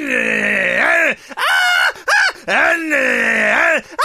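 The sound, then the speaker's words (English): A voice imitates a woman screaming in terror, like the scream in the last 25 minutes of a Tobe Hooper film with a chainsaw-revving man in a leather mask: loud, strained, wavering shrieks in several bursts with short gasping breaks, alone without any talk. “The last 25 minutes is literally a woman screaming while a man in a leather mask made out of other people's faces revs a chainsaw.”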